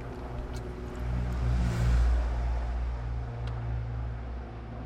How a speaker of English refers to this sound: Plane goes by. Might be a helicopter.